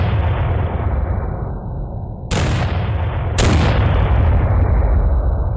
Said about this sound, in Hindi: लेकिन लगता है पाकिस्तानियों को भारतीय हमले का आभास हो गया। उन्होंने अपने तोपखाने से भारी फायर करना शुरू किया।